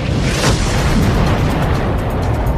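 A massive, sustained explosion sound effect representing the Big Bang roars with deep rumbling low end and a broad crackling wash, holding loud and steady throughout rather than fading, with no voices present.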